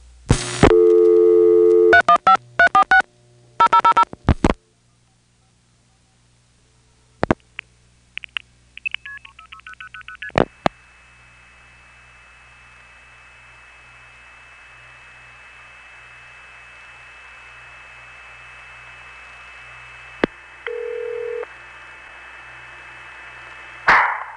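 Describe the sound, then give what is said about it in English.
Telephone call tones to an exchange, placing calls to two tribs, Croghan, New York, and Eagle Bay, in the Boonville sector: a rapid burst of dialing tones and clicks, then pitched signalling beeps, followed by a long steady tone over faint line hiss, with a short beep near the end. “I have a call to two tribs here, Croghan 346 and Eagle Bay 357. Let's see how those sound.”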